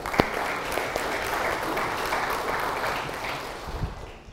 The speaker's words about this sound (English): Give her a wee clap, folks.